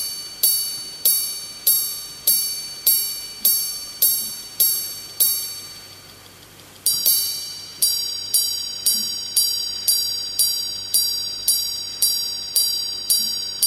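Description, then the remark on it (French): A Greubel Forsey Grande Sonnerie watch, made at the manufacture in La Chaux-de-Fonds, chimes: about nine bright, high metallic strikes in a steady rhythm, each ringing out briefly, then a short pause and a longer run of about a dozen more. “Voilà le son que produit cette montre. Mais la grande sonnerie de Grebel-Forcey, c'est encore le cofondateur de la manufacture située à La Chaux-de-Fonds qui en parle le mieux, Stéphane Forcey.”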